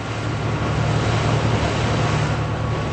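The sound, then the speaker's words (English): A steady, loud engine drone with a low rumbling hum and broad rushing wash as a gray 60-foot-long patrol boat with a machine gun on its bow plows through the flat waters of the Gulf of Aden on a hot, humid September day. It is continuous, with no talking. “On a hot, humid September day, a gray 60-foot-long boat with a machine gun on its bow plows through the flat waters of the Gulf of Aden.”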